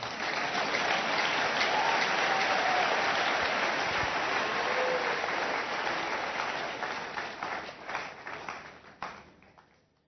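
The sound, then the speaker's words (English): A crowd applauds in a dense, steady wash of clapping that holds strong for several seconds, then thins into scattered claps and fades out by the end. “Clap well, oh.”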